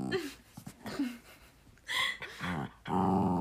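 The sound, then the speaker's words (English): A dog growls and grumbles in a series of short vocal bursts, the last few louder and more drawn out, with no one speaking. “My dog has this thing where she needs to have a hand on her at all points or she gets, like, anxiety.”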